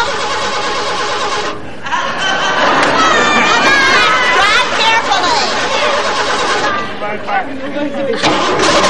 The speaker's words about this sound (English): I knew this was too good to be true. We seem to be having a little engine trouble.